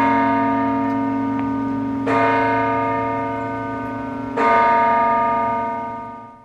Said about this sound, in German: Im Glockenstreit von Wipkingen dürfte es darum noch lang gehen, bis zum letzten Schlag.